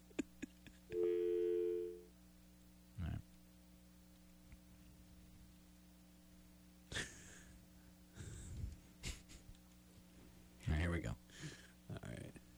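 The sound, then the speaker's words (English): A steady telephone dial tone from an antiquated phone system hums for about a second, followed by a few short bursts and clicks like a number being dialed, with faint background noise and bits of voice later on. “Like if you're dialing the numbers.”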